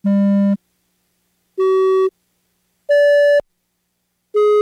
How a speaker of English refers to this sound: They're just simple computer tones. Boop, boop, boop, boop. Was that a 4 sound? That was a 4 sound.